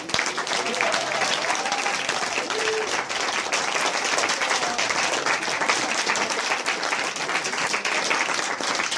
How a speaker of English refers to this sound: He's here? Yeah, he's down there. Stand up. Let's give a big round of applause for this Saint Kitanero.